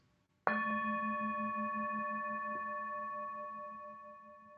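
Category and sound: signal or alarm, mindfulness bell ringing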